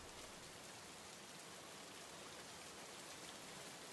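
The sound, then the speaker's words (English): Steady rain pours down in a continuous, even hiss, dense, with no pauses or voices, just the constant wash of drops across a surface. “I don't want you getting sick in this rain.”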